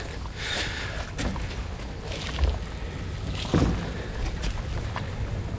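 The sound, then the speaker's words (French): Light wind blows steadily across an open harbour, with a low rumbling buffet and a couple of brief gusts over soft lapping water; no one speaks. “Allez, il y a un peu de vent.”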